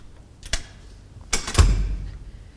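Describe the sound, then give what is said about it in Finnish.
A door is pushed hard and shut: a sharp click, then a clattering rattle and a low thud as it closes, followed by a faint rumble. No one speaks. “Otetaan ovi kiinni, saat kokeilla, miten sieltä ryömimällä päästään.”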